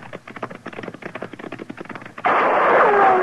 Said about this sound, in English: Hey, he's shooting at us.